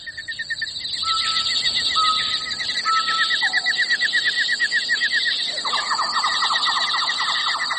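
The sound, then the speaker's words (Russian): Dense, continuous bird chirping and twittering fills a forest in the Masurian Lakes region of Poland, heard while mushroom gathering, with several birds calling at once in rapid trills and short whistles, steady throughout, no voices present. “Птичий щебет, который улавливало ухо среди прочих звуков леса, где я собирала грибы, внезапно умолк.”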